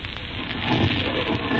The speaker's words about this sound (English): Can you tell us the meaning of that scraping noise inside the thing? Possibly the unequal cooling of its surface.